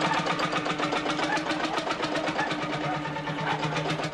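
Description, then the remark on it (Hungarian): An old, restored Lanz Bulldog tractor, one of only 300 brought to Hungary in the mid-1950s, runs steadily, its loud, even chugging pulsing in a quick regular rhythm throughout, with no voices over it. “Több ezer órát dolgozott rajta, és úgy megjavította, hogy ma már egy pöccintésre beindul.”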